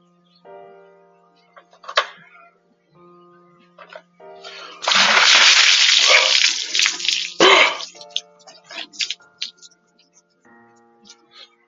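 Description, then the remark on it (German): A bucket of water is dumped over someone in one loud rush that splashes for about two seconds, with voices talking and exclaiming before and after. “Ja, habt ihr leider bei mir falsch. Also, auf geht's. Einmal Wasser.”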